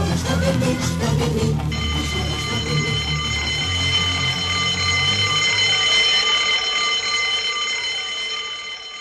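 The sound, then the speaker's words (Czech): A school bell at Josif Kostić primary school in Leskovac rings loudly and continuously for the long break, a steady metallic electric clang held for about seven seconds after a short burst of busy noise. “U osnovnoj školi Josif Kostić u Leskovcu zvonilo je za veliki odmor.”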